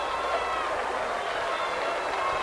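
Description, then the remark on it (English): A steady wash of distant crowd noise far up Hennepin Avenue in Minneapolis, many voices shouting and cheering together as the first runner nears the race finish line at Bridge Square, blending into a continuous roar with no single voice standing out. “I believe, yes, way up Hennepin Avenue there is shouting.”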